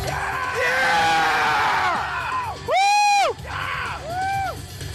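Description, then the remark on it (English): A crowd erupts in excited cheering and high-pitched screams as video game footage shows Samus emerging and running down a hallway in third person. One loud, sustained shriek rises above the din midway before more whoops and yells follow. No speech, just raucous vocal excitement throughout. “But just that fucking pop, that rapturous reception to fucking Samus emerging and running down a hallway in third person, and no one has any”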